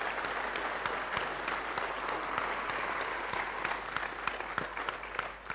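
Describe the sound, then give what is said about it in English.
Steady applause from an audience for the hackers behind free software, dense crackling claps with sharper individual claps standing out, holding an even level for several seconds before easing slightly at the end. No voices over it. “So I think perhaps a round of applause for you and all the hackers is appropriate for that.”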